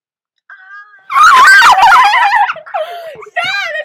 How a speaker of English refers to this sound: A dog.